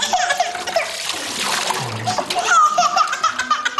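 Water splashes and sloshes continuously for a few seconds as an infant is dipped during a baptism by a priest, in the name of the Father, the Son and the Holy Spirit, with a baby's high voice and some background voices mixed in.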